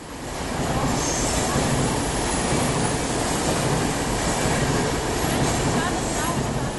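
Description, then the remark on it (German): A train rumbles steadily past at Wankdorf station in Bern, Switzerland, at 7 a.m. in cold twilight, its wheels grinding and faintly squealing on the rails, with dense station noise and a few indistinct voices mixed into the constant roar. “Es ist 7 Uhr morgens, es ist noch dämmerig und es ist kalt am Bahnhof Wankdorf.”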